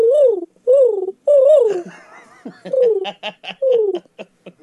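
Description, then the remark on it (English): A voice imitates a mating pigeon's cooing: several loud, warbling coos that rise and fall, separated by short pauses, with breathy, choppy laugh-like pulses in between. “A mating pigeon.”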